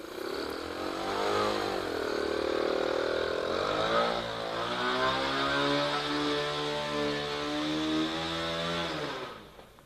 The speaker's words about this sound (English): Boy, I never expected to see Miss McFeely on a motorcycle.